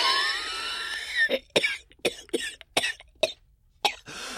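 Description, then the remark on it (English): A harsh, raspy stretch of throat noise gives way to a fit of about seven sharp, loud coughs in an uneven rhythm, each a short, rough burst separated by brief pauses. “Dude, cover your mouth.”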